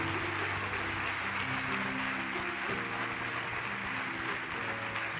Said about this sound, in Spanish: Vamos a darle un fuerte aplauso al Señor Jesús. Amén.